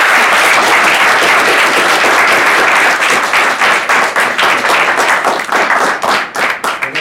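audience applause

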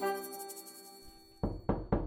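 knock

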